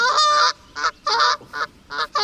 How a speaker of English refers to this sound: That's geese. Geese or goose? Do you think that's more than one? It is important. Play it again. Yeah, it's geese.